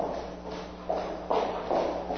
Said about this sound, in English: Imagine walking down the street and hearing footsteps behind you. They get closer and closer, and suddenly you have a sense something bad is going to happen.